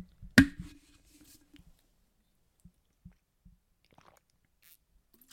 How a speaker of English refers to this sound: Let me actually take a sip of water because I'm getting thirsty. I'm getting parched from all this talking.